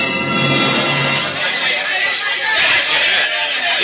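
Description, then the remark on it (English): A roaring mob in the street below a hotel, out for Murrieta's blood, forms a dense, continuous wall of shouting and babble, loud and steady throughout, swelling slightly in places with no single voice standing out. “For example, a conversation between three people in a hotel room overlooking a roaring mob in the street below.”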